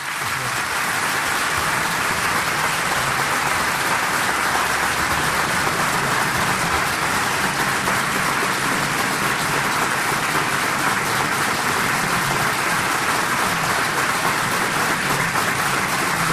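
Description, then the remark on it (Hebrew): Sustained applause from a large crowd, with Israeli Prime Minister Benjamin Netanyahu clapping alongside US President Trump, a dense, steady wash of clapping that holds at an even, loud level for the whole stretch without easing off. “ראש הממשלה כל העת לצד נשיא ארצות הברית, מוחא כפיים יחד עם הקהל.”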